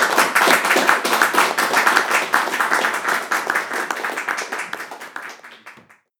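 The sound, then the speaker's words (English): An audience claps steadily for about six seconds, a dense patter of many hands that stays loud at first and then gradually thins and fades out toward the end. “Give a great clap.”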